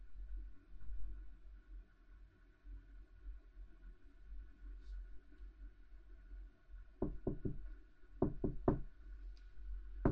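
Two quick bursts of three firm knocks on a door, fairly loud, then a single knock at the very end, all over a low steady background hum with no talking.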